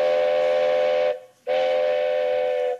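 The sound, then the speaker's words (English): Two long, loud blasts of a steam train whistle from a train approaching a railroad crossing on the way to Quebec, each held steady for over a second with a brief gap between, clear with no voices. “We just have to cross these railroad tracks before that train gets here.”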